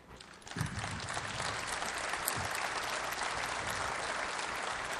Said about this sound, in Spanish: Obviamente que los medios van a editar este aplauso y seguramente van a poner algo que sea un abucheo.